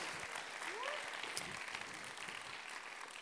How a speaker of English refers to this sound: It's worth clapping because it's not just a number.